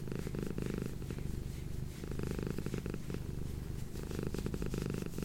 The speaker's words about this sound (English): But yeah, some triggers involve like scratching or head scratching, patting, like this. I'm scratching my cat and between her ears and behind her ears right now, so that's what you're hearing.